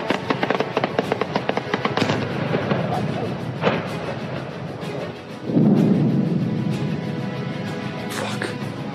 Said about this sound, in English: That's about the 15th explosion I've heard so far. Lviv is currently undergoing the largest aerial attack since the beginning of the war in Ukraine.